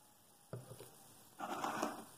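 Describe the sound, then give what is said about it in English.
A quiet sip of water: a soft wet click, then a longer slurping, gulping noise lasting under a second, with no one talking. “So, let me take a sip of water here. I'm thirsty.”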